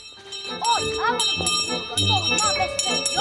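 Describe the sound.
A schoolboy rings a handbell on Joe Street in repeated, irregular strokes, its bright ringing tones lingering between hits, while voices carry on underneath.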